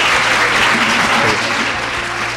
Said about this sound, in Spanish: Un fuerte aplauso para estos chicos del taller de radio.